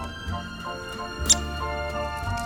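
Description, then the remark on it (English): A single short, sharp, high-pitched 'pik' note from a downy woodpecker, heard once against a quiet, steady background hum with no other calls. “But even if you don't see them, you can still tell them apart by those calls. Remember, soft and downy, like a duvet.”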